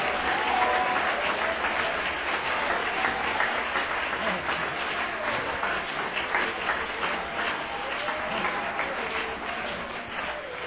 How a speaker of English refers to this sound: I want every able-bodied person to clap their hands right now.